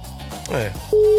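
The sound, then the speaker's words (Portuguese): Voices murmur briefly, then a loud, steady telephone busy-signal tone cuts in near the end and holds, ringing out clearly over the fading talk, during a call attempt to Júnior Lopes to get someone's phone number. “Gente, quem tá me ouvindo aí, estão tentando ligar pra Júnior Lopes pra saber o número do telefone do Elcinho, ó.”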